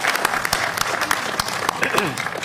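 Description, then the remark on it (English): An audience at a meeting applauds the Deputy Mayor steadily, dense overlapping claps sustained throughout, with a few voices murmuring underneath. “And I think, absolutely, round of applause for Deputy Mayor.”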